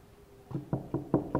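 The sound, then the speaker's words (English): Five soft knocks on a door in a quick, steady rhythm, muffled and fairly quiet, with no voices present. “They didn't knock very loud. Did I hear the knock?”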